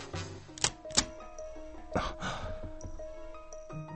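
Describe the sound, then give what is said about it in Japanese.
A key, one picked from a bunch of five, slides into a door lock with a few sharp metallic clicks and a brief scrape, over a quiet sustained tonal background with no talking. “不思議になったが、目の前のドアを見て、ひょっとしたらと思いついて、5つの鍵の中から何気なく選んだ1本を鍵穴に差し込んでみる。”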